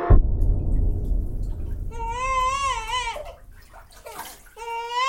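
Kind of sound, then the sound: household object, water splashing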